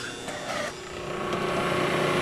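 An electric water pump motor starts up, a steady mechanical hum with a rough, rasping texture that settles and then grows slightly louder and fuller. No one speaks.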